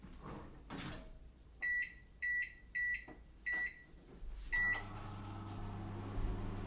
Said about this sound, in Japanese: 電子レンジでチンをしてお湯を沸かしている間に